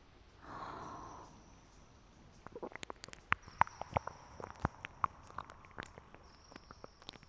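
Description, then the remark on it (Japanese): A soft breath opens, then a dense run of wet, sticky clicks and smacks from ear-licking mouth sounds, irregular and quick, quiet but crisp with a few sharper pops, no talking. “今まで聞いたこともないような不思議な耳なめ音。”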